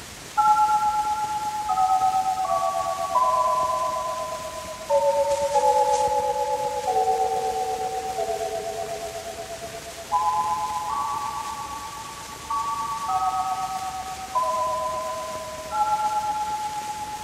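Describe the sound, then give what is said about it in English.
A toy chime, the new Toyland chime, plays a slow tune of bell-like notes, each struck sharply and ringing away. The melody steps downward, then climbs back up, with no voices. “I'll let you hear the new Toyland chime.”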